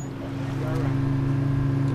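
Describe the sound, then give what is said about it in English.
A boat engine drones steadily as the boat sets off across a wide expanse of open water, its low hum growing slightly louder as it gets underway, with a wash of water and wind noise running beneath it. “Our boat disembarks, and the view opens onto a sheer expanse of water reaching all the way to the horizon.”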